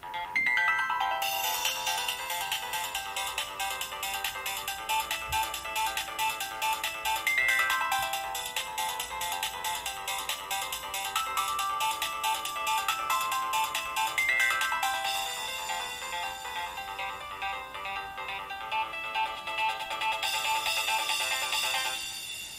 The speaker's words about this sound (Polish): Porównamy to na przykładzie kilku dzwonków, przez co usłyszycie, który telefon jest tak naprawdę lepszy, jeśli chodzi o dźwięk.